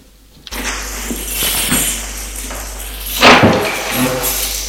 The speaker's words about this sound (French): Elle a entendu la porte qui s'est ouverte.